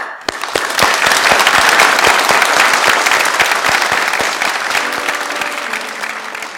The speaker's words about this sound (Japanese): 最後に皆さんと心を合わせて、神様に感謝の拍手をしたいと思うんです。とても大きな拍手をしたいと思います。神様にありがとうという私たちの気持ちを込めて拍手をしましょう。